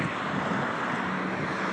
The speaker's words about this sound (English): watching the cars passing by me again.